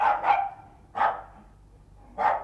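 A small dog barks in short, high-pitched yaps: a quick double bark, then two single barks spaced apart, clear with no one talking.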